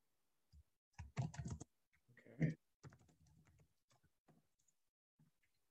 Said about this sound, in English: I'm typing furiously.